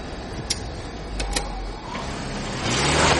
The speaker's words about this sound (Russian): Ох, моторы сильные.